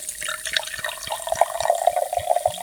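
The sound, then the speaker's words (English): About 1 cup of wine pours steadily into a cooking pot of simmered vegetables, tomato paste and browned veal, a continuous liquid splash with bubbly gurgles and a faint ringing tone that strengthens as the pour goes on. No one speaks. “And now that the veggies and tomato paste have simmered and been stirred well, we're gonna throw in that brown veal back in, as well as about 1 cup of wine.”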